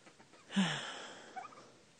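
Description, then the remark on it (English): A chicken lets out one raspy, squawking cluck, followed a moment later by a couple of softer, brief clucks, all fairly quiet with no talking. “Let's go interview a chicken.”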